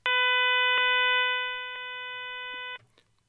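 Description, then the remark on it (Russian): A steady, buzzy electronic tone over a phone line, a modem answering a call placed to a mobile number. It holds for nearly three seconds with faint clicks, then cuts off abruptly. No voices. “Это модем. С нами разговаривает модем, похоже.”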